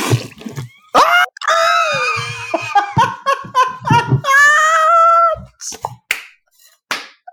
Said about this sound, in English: just spit water all over her electronic equipment recording this podcast.